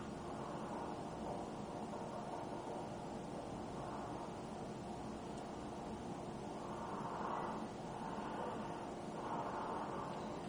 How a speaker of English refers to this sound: That heavy breathing is me, by the way, not the poltergeist.